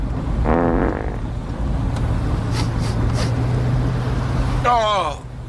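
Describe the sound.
A drawn-out, sputtering fart rips inside a moving car, over a steady low engine drone, with short voiced groans near the start and end.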